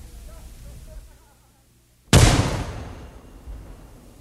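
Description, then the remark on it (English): After a couple of seconds of low, quiet rumble, a cannon is test-fired with an increased gunpowder charge: one loud shot, a sudden booming crack that spreads into a long, rolling decay with a smaller bump of rumble trailing after. “Further microphonic adjustments were made while the crew swabbed out the cannon.”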